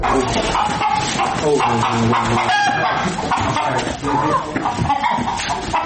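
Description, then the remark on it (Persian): A busy flock of domestic chickens, tended by a boy, clucks and squawks continuously and loudly, with a person's voice talking over the steady barnyard chatter. “می خواهد بیشتر با مرغان نگاه و بین کند چون که آنها پرنده های اهلند.”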